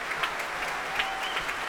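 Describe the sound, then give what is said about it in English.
Steady, dense applause from the players of a young orchestra at the Proms as the soloist comes back on to take another bow after a Ravel work, a continuous bright patter of claps with a few sharper peaks, moderately loud throughout with no voices standing out. “Big smiles, lots of applause from the players.”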